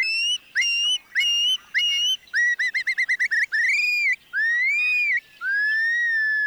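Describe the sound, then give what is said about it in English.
Loud shorebird flight calls: a run of sharp whistled notes, then a quick stuttering burst, then longer rising and falling slurred whistles, with no one talking. “When they are disturbed, their loud flight calls sound the alarm that a potential predator is near.”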